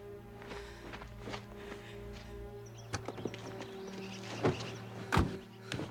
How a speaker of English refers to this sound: climbs into his car.